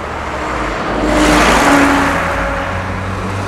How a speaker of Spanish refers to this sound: Un vehículo autónomo circula sobre una avenida despejada.